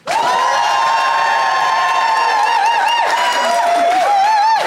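The Phoenix audience erupts in loud, sustained cheering and applause to vote on which side is in the right, with high shouted whoops whose pitch rises and falls over a steady roar of clapping that holds for several seconds.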